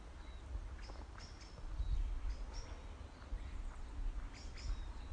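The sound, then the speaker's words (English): Faint, high bird chirps come in short scattered bursts over a low, rumbling outdoor background, with no one speaking. “I'm sorry, it's too quiet for you to hear, especially with the racket of the birds. Well, not racket of the birds. The chirping.”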